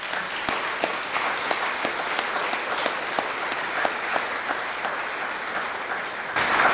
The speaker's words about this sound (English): He won't like me doing this, but we just going to applaud him for his efforts. Please, thank you.